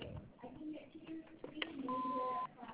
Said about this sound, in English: We're unable to come to the phone. But after the beep, please leave your name and number. Thank you.